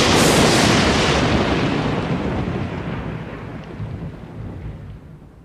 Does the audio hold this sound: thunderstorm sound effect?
yes